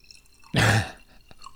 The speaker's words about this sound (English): Let me do a little, let's see if I can do a pour on Mike.